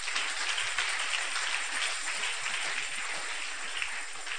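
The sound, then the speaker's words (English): A crowd applauding together, a dense, steady wash of many hands clapping at once with no distinct individual claps, holding at an even loudness throughout without any voices. “Or you can clap those hands.”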